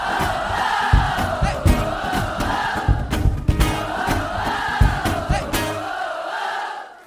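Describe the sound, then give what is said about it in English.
A large crowd screams a chant from a song back after the singer, a loud, continuous mass of voices with rhythmic accents and thumping beats underneath, holding steady for about six seconds before trailing off. “I need to scream it a bit louder than that.”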